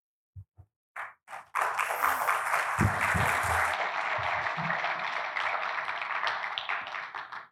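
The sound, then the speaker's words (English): A few scattered claps quickly swell into steady, sustained applause from a crowd, holding loud for several seconds with faint voices mixed in before it starts to taper. “You never applaud me.”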